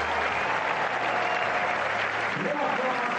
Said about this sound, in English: And Jim begins with applause for Rafa in New York.